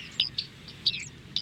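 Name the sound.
bearded reedling calls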